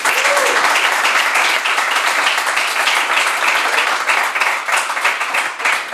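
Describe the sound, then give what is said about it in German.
Loud, sustained applause from an audience of students at the Hotelfachschule Luzern during Career Day, welcoming a guest, a dense wash of many hands clapping steadily for several seconds with no speech over it. “Schön, dass ihr da sind und einen herzlichen Applaus für meinen Gast heute,”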